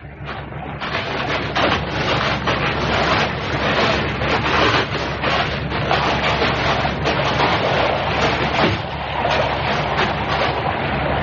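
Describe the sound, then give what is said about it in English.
Steady sea waves wash and hiss against a shore where boats are landing, in a continuous, fairly loud roar, with gentle swells rising and falling and no voices. “Yes, it's the Orange Sea, all right.”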